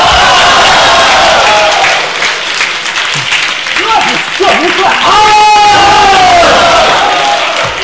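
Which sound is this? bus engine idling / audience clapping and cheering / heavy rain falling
audience clapping and cheering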